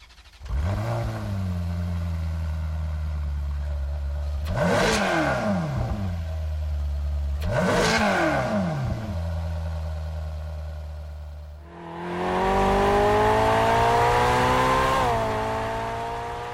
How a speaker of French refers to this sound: Ça, c'est le bruit que fait le moteur d'une Ferrari. Alors, c'est peut-être pas le bruit qu'on entend le plus dans les rues. C'est également un bruit extrêmement travaillé.